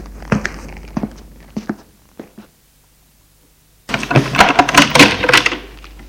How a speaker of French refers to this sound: Il referme la porte. Il va aller en ouvrir une autre.